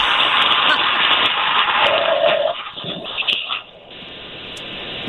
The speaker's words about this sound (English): That's going to do a tactical takeoff like they do in Afghanistan, where they take off and they go straight up and they spiral into the sky. That is incredibly loud.